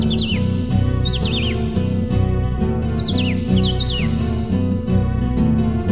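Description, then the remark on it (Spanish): Clear, descending whistled bird phrases like a cardinal's song repeat in short bursts over steady, full instrumental music, standing out above the accompaniment. “Canta el cardenal.”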